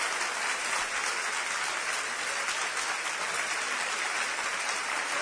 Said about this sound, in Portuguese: Aplauda o Senhor!